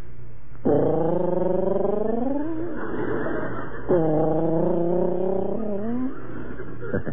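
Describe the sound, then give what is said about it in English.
A voice imitates the low, cooing whistle of lovebirds in two long, drawn-out phrases, each gliding slowly upward in pitch, over a steady low background hum. “Love birds don't whistle. They coo. They whistle. Sort of a low, cooing whistle. Like this.”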